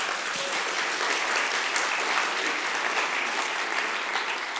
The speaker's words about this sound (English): Yeah, at least you can clap.